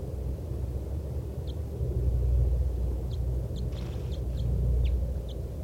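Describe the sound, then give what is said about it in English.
A wild bird, bird 411, gives a scattered series of short, high-pitched flight calls, faint and brief, over a steady low rumble with no voices. “That was 411 giving flight calls.”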